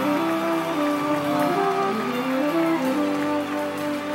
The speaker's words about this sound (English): Can we clap our hands?